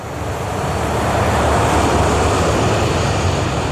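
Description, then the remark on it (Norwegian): A loud, continuous jet engine roar swells and then holds steady as a KLM airliner thunders down the runway, with a dense, rumbling wash of noise and no voices. “Nå ser han avkjøringen litt lenger fremme til venstre, og begynner å svinge skarpt, mens de ser KLM-flyet dundre mot dem.”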